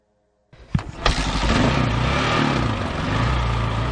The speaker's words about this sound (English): The bike is fighting up the steep logging road in the Sinfarosa Canyon of the Sierra Madre. It's raining and the trail is rutted and swampy.